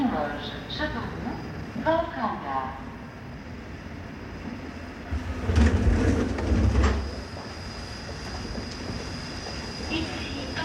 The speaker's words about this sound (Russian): Уважаемые пассажиры, мы прибыли в Париж на вокзал Аустерлиц. Просим вас покинуть вагоны.